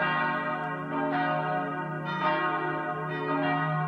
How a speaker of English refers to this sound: Palm Sunday dawned in Jerusalem's old city to the sound of bells at the ancient Church of the Holy Sepulchre.